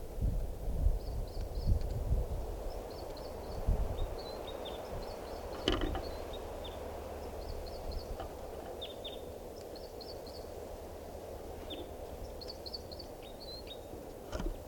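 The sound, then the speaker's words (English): A female bird perched near 387 calls while a male sings: short clusters of high, thin chirps repeat every second or two, mixed with a few lower downward notes, all over a steady windy rumble. “Now perched near 387, that's her calling, and him singing, and I'm pointed at the female.”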